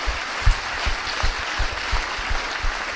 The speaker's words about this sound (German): Wir können einfach mal klatschen für die Leute, die auch gearbeitet haben.